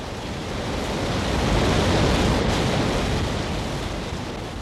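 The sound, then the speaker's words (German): A loud, continuous roar of rushing water as a river thunders down into a huge ravine of coal-black, glittering rock, swelling slightly midway and holding steady throughout, with no voices. “Die Schlucht, in die der Fluss hinunterbraust, ist eine riesige Klamm, deren kohlschwarzer, glitzernder Fels sich nach unten in ein brodelndes, kochendes Loch von unberechenbarer Tiefe verengt.”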